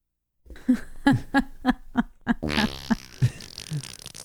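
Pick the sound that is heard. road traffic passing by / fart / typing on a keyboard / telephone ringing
fart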